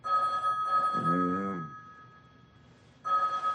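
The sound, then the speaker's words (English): A telephone in a hotel suite rings in the morning in warbling double bursts, clear, with a brief voice murmuring underneath; after a short pause the ringing starts again. “Lying in bed, Kenny picks up the phone.”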